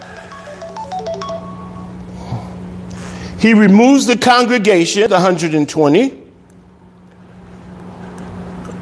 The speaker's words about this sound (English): I got to turn off my phone because somebody wants to call me.